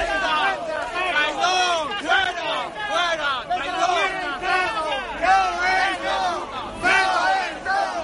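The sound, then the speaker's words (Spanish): A large crowd of party members boos and jeers loudly at the door of the party headquarters on Ferraz as a Federal Committee meeting begins, many voices overlapping in sustained waves of disapproval that swell and dip without pause for the whole stretch, dense. “un Comité Federal que se esperaba a cara de perro y que arrancaba con el abucheo por parte de los militantes en la puerta de Ferraz.”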